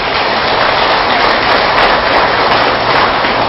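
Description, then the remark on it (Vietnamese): A crowd claps steadily, a dense, loud wash of many hands that holds an even level throughout, with no voices standing out. “Chúng ta hãy dành một tràng vỗ tay để nỗ lực làm công việc đó.”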